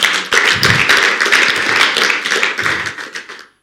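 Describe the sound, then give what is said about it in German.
An audience bursts into applause, a dense patter of many hands clapping at once that holds steady for a few seconds and then thins out and fades to silence. “Lass uns Applaus für die Gnadezeit.”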